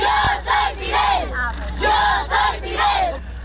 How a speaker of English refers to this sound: These children lined the streets of Santiago shouting, "Yo soy Fidel," which means, "I am Fidel."